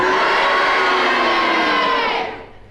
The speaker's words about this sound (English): If you agree with Kenneth Williams' challenge, will you cheer? And if you disagree, will you boo?